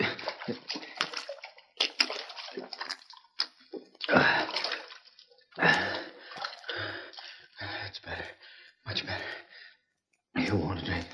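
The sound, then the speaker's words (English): Water from a bucket sloshes and splashes in a tin cup as a man drinks from it, in several uneven bursts separated by brief pauses, with breathy sighs between sips. “Mr. …, water. Take a drink.”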